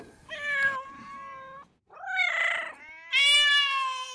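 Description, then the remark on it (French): Several cats meow loudly in long, drawn-out wails, three distinct yowls with a short pause between, with no talking. “Pourquoi vous avez beaucoup de chats”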